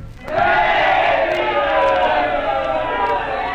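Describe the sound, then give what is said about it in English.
A large crowd in Rome shouts and roars together, a loud sustained wall of many voices that swells up quickly and holds steady without pause for several seconds. “What means this shouting, Cassius?”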